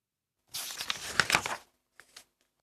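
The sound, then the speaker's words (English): A paper bag full of balls for eating crinkles open in a dry burst of rustling lasting about a second, followed by a brief softer crackle after a short pause. “Here is a paper bag.”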